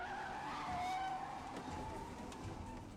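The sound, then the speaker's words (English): Car tires screech in a loud, sustained squeal with a slightly wavering pitch, layered over a low engine rumble and easing off toward the end of about three seconds. “It's not real or fun or exciting if you don't have that tire squeal.”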